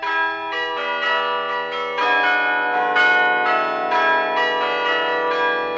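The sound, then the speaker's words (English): Carillon bells of the Peace Tower on Parliament Hill in Ottawa ring out a melody, played by a person hitting every note from a small room seven stories up the tower; overlapping bell strikes at a steady pace, their tones sustaining and blending into a rich, resonant wash. No voices. “If you've ever visited Parliament Hill around midday, you'll hear beautiful songs ringing from the bells of the Peace Tower and echoing through the streets of Ottawa.”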